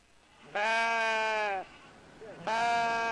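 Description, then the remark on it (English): Two loud sheep bleats, each a sustained wavering baa about a second long, separated by a short pause with faint background noise; sheep lounging in the shade of a covered outdoor livestock arena at the Mesa County Fair in Colorado, U.S. “The sheep and goats, pigs and cows, lounging in the shade of this covered outdoor arena have no idea the strange times we're living through.”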